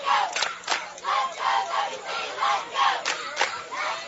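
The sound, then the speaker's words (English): The Washington County crowd at a ballgame cheers loudly and steadily in support of their girls, many voices shouting together in rhythmic surges with sharp bursts of yelling, like a chant rising and falling every half second or so. “But Washington County crowd will not go away. They will keep letting their girls know that they are here to support them.”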